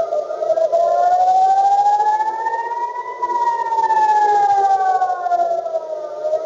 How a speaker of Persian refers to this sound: در زمان حمله مسیر چندین پرواز تغییر کرد و صدای آژیر خطر در مناطق مرکزی اسرائیل، تل‌آویو و بخشی از کرانه باختری به صدا درآمد.